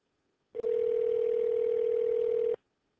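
A single steady ringback tone on an outgoing phone call to a woman at home hums for about two seconds, clear and even, then cuts off into silence with no one speaking.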